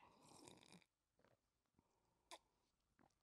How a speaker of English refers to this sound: Let me take a sip of coffee.